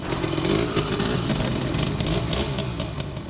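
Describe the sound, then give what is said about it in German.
A small Simson moped engine runs loud, its buzzy two-stroke drone steady with slight revving swells throughout, no voices present. The moped is riding up in front of the state parliament (Landtag) in Potsdam, Germany. “Wir hören hier eine Simson, ein kleines Motorrad bzw. Moped.”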